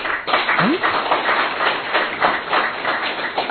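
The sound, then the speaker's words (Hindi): An audience in a class claps Mount Abu style for a few seconds, a dense, even patter of many hands with no pauses, fairly loud throughout. “Tali बजाइए please.”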